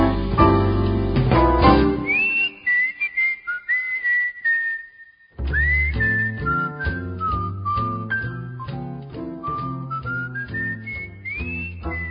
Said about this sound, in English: Well, not only can she sing, but she can whistle, too. It's just amazing.